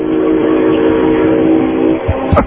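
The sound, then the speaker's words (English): A train rumbles past, a steady loud roar with a sustained horn-like tone, then a couple of heavy clunks near the end. “Good time for a train to be going by, too.”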